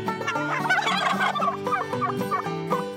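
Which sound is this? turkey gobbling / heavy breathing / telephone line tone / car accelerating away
turkey gobbling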